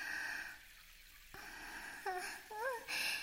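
Shower water runs in a steady, hissing spray, dipping briefly before picking up again, while a soft breathy voice lets out a few short sighs and gasps over it.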